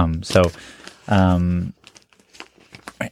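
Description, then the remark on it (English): Loose pieces of note paper from a clipboard rustle and crinkle in short, irregular bursts, following a brief voiced sound at the start; the crackly handling continues faintly to the end. “In fact, if you look at my pocket, I just have a lot of loose pieces of paper where I jot notes and stuff too.”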